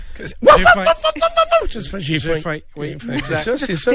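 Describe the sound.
A person's voice mimics a puppy, starting with a high, drawn-out whine and then breaking into a quick series of short yips and whimpers, fairly loud.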